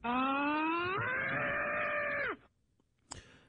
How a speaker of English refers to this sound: This is the Neil Rogers soundboard. These were the sounds that Neil left us. When he passed, he left us his soundboard. Oh! Let's see what else we got here. Oh, this is Neil screaming.